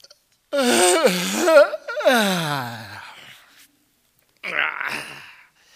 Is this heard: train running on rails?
no